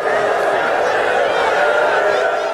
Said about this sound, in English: That sound of Colts fans booing Andrew Luck last Saturday after news broke that the 29-year-old quarterback is retiring from the NFL.